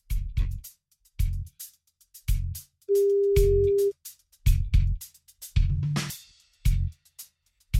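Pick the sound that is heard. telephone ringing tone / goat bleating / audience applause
telephone ringing tone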